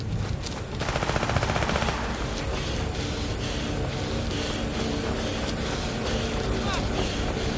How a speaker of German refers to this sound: Es fallen auch Schüsse in den Himmel, die haben geschossen. Also nicht auf uns, aber in den Himmel irgendwie Angst zu machen.